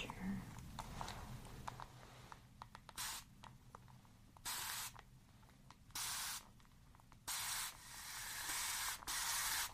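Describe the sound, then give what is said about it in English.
A handheld spray bottle spritzes water on top of clay to create a mix, in about six short hissing bursts spaced a second or two apart, with quiet handling noise between them. “I'm going to spray on top with water to create a mix.”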